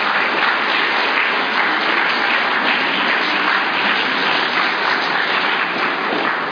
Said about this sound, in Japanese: 拍手を持って登壇していただきたいと思います。